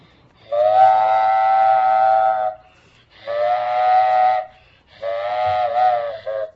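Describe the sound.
A child's voice imitates a freight train whistle with three long, steady hooting blasts separated by short pauses, loud, with no other sounds around it.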